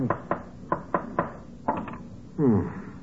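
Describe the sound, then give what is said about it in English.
A hammer taps a nail to tack a painted canvas onto a wooden frame, with about seven sharp, woody knocks in an uneven rhythm, followed by a brief harmonic squeak-like sound at the end. “But what were you doing with the hammer and nail?”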